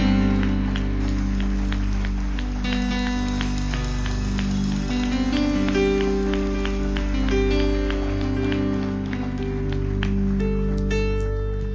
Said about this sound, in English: You're so good to give Him a great clap offering today. Come on.